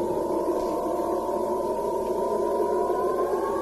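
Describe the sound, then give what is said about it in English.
Storm wind howls outside in a steady, moaning tone that slowly creeps upward in pitch, continuous and fairly loud for the whole stretch, with no voices. “I think we have another storm coming. It is really blowing out there.”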